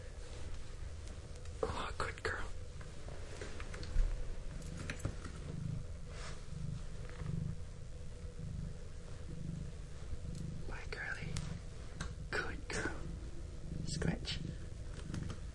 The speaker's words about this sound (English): Good girl. I hope you can hear. I hope the microphone picked up my cat, Tash. She's so sweet. She comes to say bye to daddy. And he's petting her and she's scratching on her scratch pad.